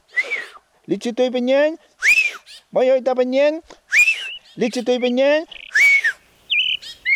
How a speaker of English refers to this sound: With its call, the ostrich thrush characterizes the sunrises of the forest throughout the south of Chile and Argentina